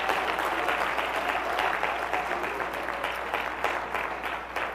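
Sustained applause from a church audience, given as a clap offering to the Lord for the Word of God: a dense, steady wash of many hands clapping at once, fairly loud throughout and tapering slightly toward the end, with no voices rising above it.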